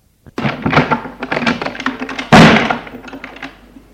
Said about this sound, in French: Tout à coup, la porte du bureau de son grand-père s'ouvre.